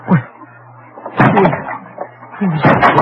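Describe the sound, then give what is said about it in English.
The door of a house of God is being broken down by people forcing their way in: three heavy, crashing blows land about a second apart, loud, each followed by a rattling, splintering rumble over a low steady hum. “What right have you coming in like this, breaking down the door?”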